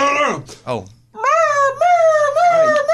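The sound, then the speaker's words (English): A person imitates a hurt puppy's whine: two short, falling whimpers, then a long, high, wavering whine held for nearly two seconds, fairly loud. “That's like a hurt puppy.”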